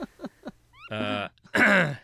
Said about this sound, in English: I don't even know what that was. That was a red knot? Okay. I guess I should know that. They're not super vocal when they come through here.